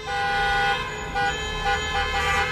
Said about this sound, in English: While the governor spoke, the sound of car horns could be heard outside as protesters, tired of the school and business closures, held a demonstration, saying they're being hurt economically.